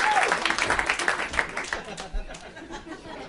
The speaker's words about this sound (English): Paul F. Tompkins, John Hamm, and Tom Sharpling, everybody. Here they come. A lot of John Hamm, a lot of people yelling, yeah, John Hamm.